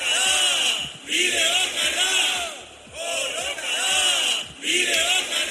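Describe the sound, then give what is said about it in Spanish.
A large crowd of young people in Mondragón chants the slogan "Que la lucha es el camino" in unison, the loud shouted phrase repeating in a steady rhythm roughly every couple of seconds, with brief dips between repetitions. “Que la lucha es el camino, gritan.”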